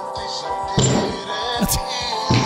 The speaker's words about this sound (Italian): Sono degli spari questi. Comincia a dare testata al tavolo.